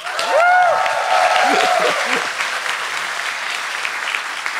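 crowd, applause

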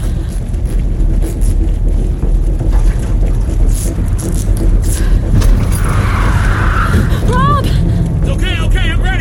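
vehicle, car driving

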